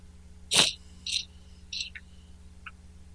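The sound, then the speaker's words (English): A co-host's coughing fit: one loud, harsh cough followed by several shorter, weaker coughs at uneven intervals, with no talking over them. “Pardon this interruption while our co-host coughs up along.”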